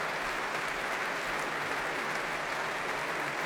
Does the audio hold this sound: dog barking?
no